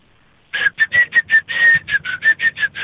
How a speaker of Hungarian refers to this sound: Na, de fütyüljél, ne susogjál.